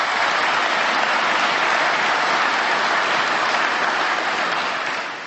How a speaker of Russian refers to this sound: Дорожникам давайте поаплодируем.